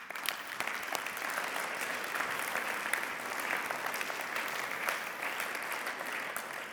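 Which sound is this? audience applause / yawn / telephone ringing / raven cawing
audience applause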